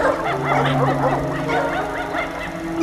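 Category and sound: animal, dogs barking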